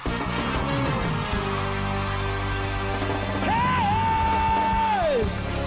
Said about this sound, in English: somebody scream